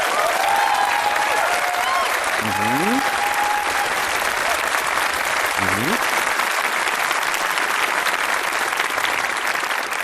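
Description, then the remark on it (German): A large audience at a poets' event claps steadily and loudly for about ten seconds for a Twitter short-story collection, with foot stomping mixed into the dense applause and a couple of brief rising whoops from the crowd. “Ich höre da hinten Getrampel, ihr macht das schon richtig, das ist sehr gut.”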